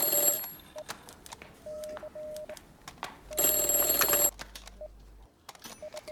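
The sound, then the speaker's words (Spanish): A telephone rings in the Italcable building in Málaga, in two loud bursts of shrill, rapid bell trilling, the first at the start and a second about three seconds later, with quieter electronic beeps and a low hum in between. “El ministro de la Marina al teléfono, señor.”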